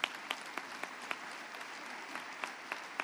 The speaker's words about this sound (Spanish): Es una publicidad esta mañana. Vamos a dar un aplauso por todos esos solteros.